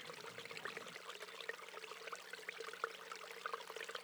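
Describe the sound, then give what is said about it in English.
Water trickles and burbles steadily over rocks in a canyon stream coming from the top of the mesa at Encinal, a continuous bright babbling with small splashes, moderately quiet, with no voices present. “That water was coming from the canyon, you know, on the top bar of the Mesa in Encinal.”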